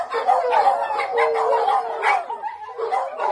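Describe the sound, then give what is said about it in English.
Several dogs riding a puppy bus in Skagway, Alaska yip and bark in quick, overlapping bursts, with excited whining between the barks and a faint hum of the bus beneath. “The passengers can be loud, but they're pretty well behaved.”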